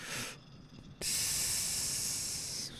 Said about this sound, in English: Give people a play-by-play of this hit I'm about to take real quick. Ooh, you got my boy. So hit it.